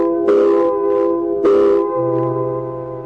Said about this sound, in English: same quitting time, there was a whistle. Loud enough to buckle your knees and send waves up your spine.